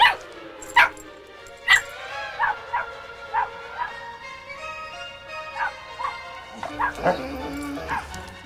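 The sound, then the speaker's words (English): A dog runs to a kitchen window and barks repeatedly, a steady series of sharp, yappy barks roughly every half second to second, growing busier and more excited near the end. “Oddball runs to the kitchen window and barks.”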